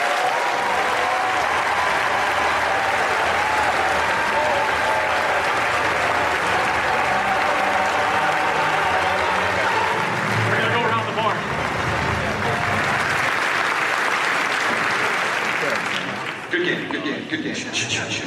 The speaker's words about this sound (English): Give a round of applause to Walt Disney Imagineering and to Lucasfilm members.